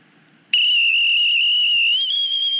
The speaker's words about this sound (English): There's no art to the way he whistles. Yeah, and the last is the trill, as we explained, forming an R. We give him one more fluttering chance. Fluttering your tongue on the roof of your mouth.